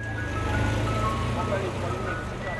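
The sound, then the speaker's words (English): A Mr. Softee ice cream truck's tinkling jingle plays over steady, busy street noise at 37th and 74th in Jackson Heights, Queens, New York City, with voices murmuring in the background throughout. “The Mr. Softee truck on 37th and 74th in the Jackson Heights section of Queens is out of place in a neighborhood of Bangladeshi record stores, South Asian food markets, and Indian restaurants.”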